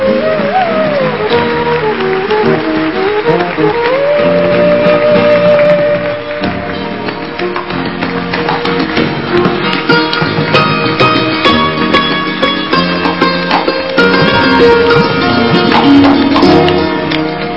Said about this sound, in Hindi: दादा केक पर लगी हुई मोमबत्तियां प्रज्वलित कर रहे हैं और साथ में हमारी सभी मीठी दादियां भी मोमबत्ती प्रज्वलित कर रही हैं, इसलिए जोर से ताली बजाइए।